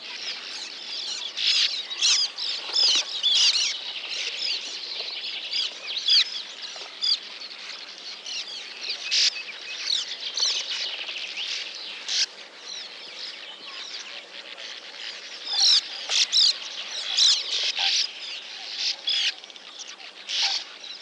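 A dense, continuous chatter of a nesting colony of sand martins, with buzzy, twittering calls overlapping throughout, bright and high-pitched, with occasional louder bursts and no voices.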